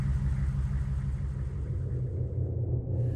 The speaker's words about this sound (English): Wait, the truck's slowing down. The truck lurched to a halt, engine throbbing.